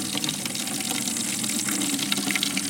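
water drawn

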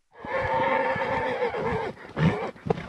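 horse neighing

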